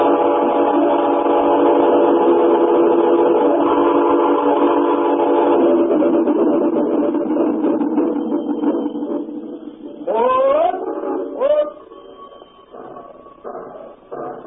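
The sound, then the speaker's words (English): A train pulling out of Midford rumbles steadily along the rails, a long, loud whistle sounding over the rolling clatter before fading, then a couple of short whistle blasts and rhythmic wheel clanks near the end. “You want to be able to jump when the train slows down at the big curve.”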